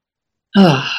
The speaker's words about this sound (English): Okay. So let's all take a breath together. Just kind of ground ourselves into our heart space. Let it open up.